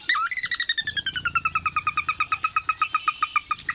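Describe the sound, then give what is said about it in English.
A sora's whinny: a high whistled opening that drops into a long, fast, evenly paced run of about two dozen clipped notes, fairly loud over a low background rumble. “Sora.”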